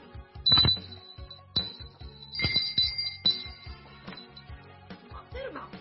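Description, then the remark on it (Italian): A bright, high-pitched doorbell rings several times in quick bursts, each ring lingering briefly over a low rumbling background. “Suona il campanello.”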